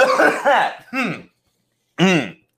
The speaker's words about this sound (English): You guys ever need to do that? Just like just clear your throat just so obnoxiously?